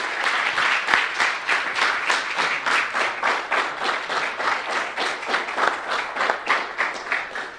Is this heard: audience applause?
yes